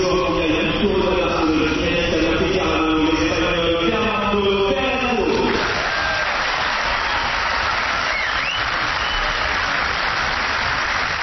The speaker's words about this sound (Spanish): Lo recibieron con aplausos. Debe ser, como decía Miguel Ángel Zubiarán antes, que había muchos españoles en la grada.